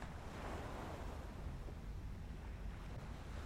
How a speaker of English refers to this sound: And the waves crashing on the shore.